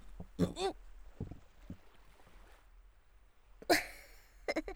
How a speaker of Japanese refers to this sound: ごめん、ごめん。胃がムカムカしてたのが限界来ちゃったのか。またゲップ出ちゃった。どんだけゲップ出すんだよって感じよね。